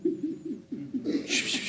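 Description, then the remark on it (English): A voice imitates doves cooing: a quick run of soft, low, throaty coos in steady rhythm, ending in a breathy hiss. “I call it the cooing of the doves.”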